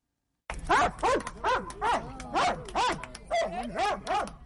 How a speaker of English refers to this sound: That's Senna. She's a 9-year-old Belgian Malinois, the dog breed of choice for experts securing areas where there are landmines and unexploded bombs and shells. She's a veteran mine detection dog who sniffed her way across 1.5 million square meters